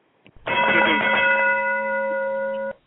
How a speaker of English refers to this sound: Well, was that the gong?